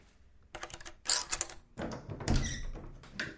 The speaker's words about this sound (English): A rap on the front door snaps me out of it.